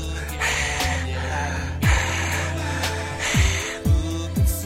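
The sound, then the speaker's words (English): A voice imitates heavy, raspy breathing as if into a phone, with loud breaths repeating in an uneven rhythm and a few gasping, downward-sliding exhales. “You breathing on the phone and shit.”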